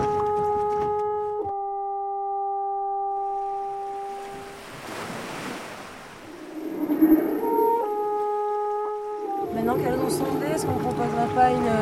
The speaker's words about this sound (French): J'ai envie d'avoir beaucoup de sons parasites de bateau.